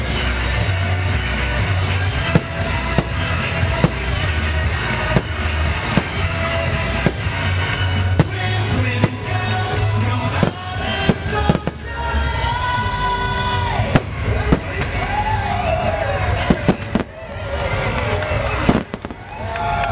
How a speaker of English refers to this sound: The grand finale of fireworks.